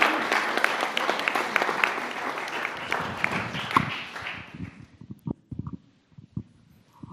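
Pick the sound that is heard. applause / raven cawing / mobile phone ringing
applause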